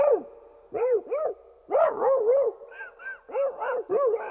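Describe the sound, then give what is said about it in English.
Frantic barking and yelping from dogs in a fight in the sub, a rapid run of loud bursts that sometimes overlap, with brief pauses between flurries. “He got into a dogfight in the sub with the other dogs that were on it.”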